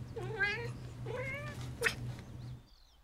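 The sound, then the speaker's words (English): A cat, Pepper, meows eagerly at her perch by the window of a 100-year-old Chicago apartment in the morning, in two drawn-out, rising calls followed by a short chirp, fairly loud over a steady low hum, then faint high bird chirps. “Every morning, I wake up in my 100-year-old Chicago apartment to the sounds of my cat, eagerly meowing at her perch by the window.”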